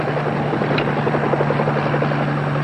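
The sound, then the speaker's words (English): A helicopter flies overhead with a steady, loud mechanical drone and a rapid, pulsing rotor chop, sustained without pause and with no one talking. “We came out here to look at whirlybirds, and we're going to look at whirlybirds.”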